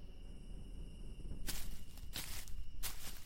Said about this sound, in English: Footsteps crunched across the campsite so loud it sounded like a Neanderthal could have been dragging his club.